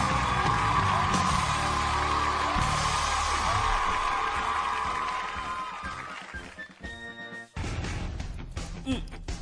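An audience applauds and cheers loudly for a performer on a show's roll-call stage, with scattered whoops and yells, sustained for about six seconds before thinning out as music with steady tones takes over.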